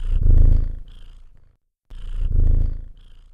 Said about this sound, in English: Purr, P-U-R-R, is a lovely sound that cats make, and rather than try to imitate it, I will just play it for you here.